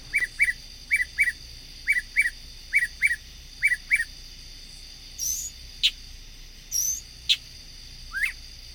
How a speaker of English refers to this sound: Well, we've talked about mockingbirds that sing at night, and let's listen here.